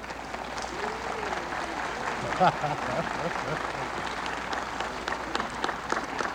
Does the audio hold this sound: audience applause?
yes